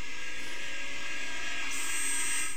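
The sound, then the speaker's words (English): A steady, loud jet roar fills the whole stretch, a broad rushing hiss with a whining edge that turns brighter and harsher about two-thirds of the way through. No voices are heard. “A jet plane.”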